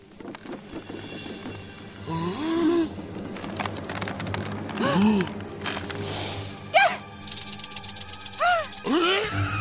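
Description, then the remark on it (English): A dry, rapid buzzing rattle of a rattlesnake starts partway through and continues steadily to the end, prominent, with rising and falling vocal sounds and voices heard before and around it. “That's a rattlesnake? Highly venomous?”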